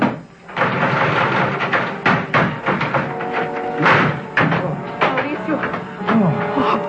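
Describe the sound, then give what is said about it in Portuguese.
A locked upstairs bedroom door is being forced open with a series of loud, heavy thuds and bangs. The blows come in an uneven rhythm, about nine impacts over several seconds, with a wooden rattle between them. “Inspetor, é melhor arrombar a porta.”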